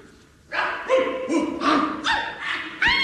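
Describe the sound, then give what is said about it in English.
A rapid run of barks from about 40 long-haired sheepdogs, one after another with no pause between them, loud, several separate yaps and woofs overlapping into a noisy chorus. “40 long-haired sheepdogs.”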